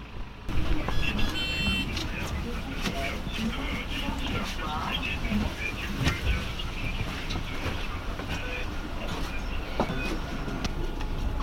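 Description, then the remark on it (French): A city bus pulls up and idles with a steady engine rumble, a brief high electronic beep near the start, and people's voices murmuring under the traffic noise as passengers board. “On prend le bus ?”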